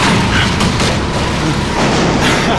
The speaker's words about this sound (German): Er versuchte ebenso zu bremsen und kam dabei ins Schleudern. Reifen quietschten und Staub wirbelte auf. Dann krachte Maddox in einen Reifenstapel an der Bande.